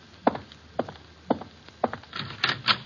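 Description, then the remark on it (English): Four steady footsteps on a wooden floor, then a quick cluster of clicks and wooden knocks as a door is unlatched and pulled open to answer a caller, with no voices. “Answer the door.”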